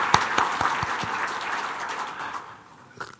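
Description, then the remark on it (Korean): A church audience applauds to welcome a pastor assigned to serve a youth district: a dense wash of many hands clapping steadily for about two seconds before fading out, with a few louder individual claps standing out near the start and end. “예, 박수로 맞으십시오.”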